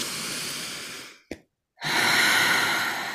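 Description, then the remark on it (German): A deep, conscious breath drawn in slowly, a brief pause, then a long, airy exhale, with no talking. “Du atmest ganz bewusst, du entscheidest dich dafür ganz bewusst.”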